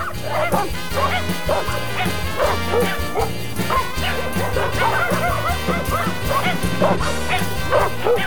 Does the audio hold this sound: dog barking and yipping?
yes